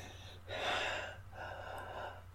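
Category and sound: human body sound, heavy breathing and gasps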